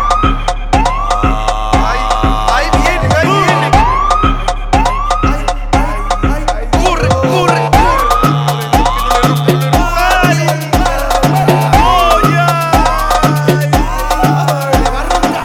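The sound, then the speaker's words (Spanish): A loud police siren wails in fast, repeating rising-and-falling sweeps. A steady, pulsing low thump runs underneath throughout. “Ya estamos buscando carta blanca con la sirena prendida.”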